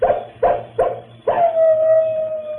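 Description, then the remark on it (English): A wolf, the old he-wolf Brindle on a ridge, gives three quick, sharp barks in a row, then breaks into a long, steady howl that holds to the end. Loud, with no talking. “Now we've got company. The wolves are out.”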